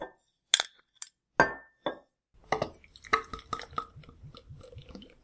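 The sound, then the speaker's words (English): Several sharp glass clinks and knocks as a bottle of sweet, spicy cinnamon beer is opened, one with a brief ringing tone, followed by a fizzy, bubbling pour with a steady run of soft low glugs. No one speaks. “I'm ready to open it.”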